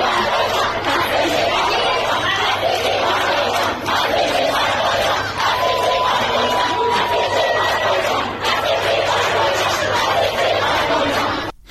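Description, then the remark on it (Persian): A crowd of schoolgirls shouts protest slogans, including "Death to the Basiji," stopping a speaker lecturing them on hijab: a loud, continuous wall of overlapping voices that barely lets up for the whole stretch, with a faint high tone threading through the middle. “دختران دانش آموز و فریاد و شعار مرگ بر بسیجی مانع از ادامه سخنرانیش میشن.”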